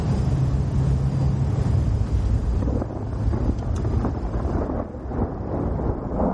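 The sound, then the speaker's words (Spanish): Strong storm wind at night roars steadily around a house with a deep, rumbling low end and broad hiss, gusting and surging throughout without letup, while a man moves buckets around the house. No voices are present. “De noche, bajo una fuerte tormenta, Jacob mueve cubos en torno a la casa.”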